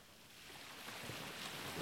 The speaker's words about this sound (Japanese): 波の音を聞きながら、リラックスしてていいよ。ほら、月の光で海が輝いてる。綺麗だね。